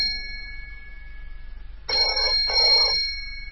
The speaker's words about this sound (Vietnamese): Vừa khiêng ra tới cửa phòng, chợt tiếng chuông điện thoại ré lên.